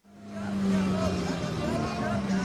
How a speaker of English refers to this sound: The traffic on the road to this lake in northern Syria stretches for miles.